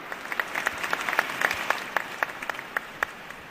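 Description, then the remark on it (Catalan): Spontaneous applause from a crowd in a church, a steady patter of many hands clapping at moderate volume with scattered sharper claps standing out, continuing for a few seconds with no voices. “Aquests aplaudiments espontanis donaran pas a les paraules.”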